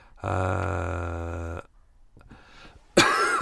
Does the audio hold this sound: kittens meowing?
no